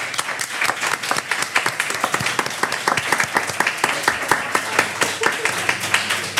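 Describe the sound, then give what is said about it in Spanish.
An audience applauds a colleague, a wine specialist, during a live radio programme, steadily for several seconds, dense overlapping hand claps at a fairly loud, even level with no voices standing out. “Yo os pediría un aplauso para él porque ha estado mucho tiempo llevando”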